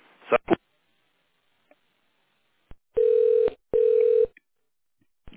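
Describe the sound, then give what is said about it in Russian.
Two sustained, loud electronic telephone keypad tones, each lasting about half a second with a short gap between them, dialed on a phone in tone mode into the automated line of the company Proletarsky Zavod, preceded by a couple of brief clicks and otherwise quiet. “Переведите ваш телефон в тональный режим. Для соединения с канцелярией нажмите 1.”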